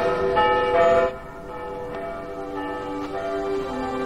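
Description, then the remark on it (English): Church bells ring out together in a dense, resonant peal, strikes overlapping into a sustained shimmering wash of tones, loud at first and then settling into a steady ringing with no voices. “Are those church bells?”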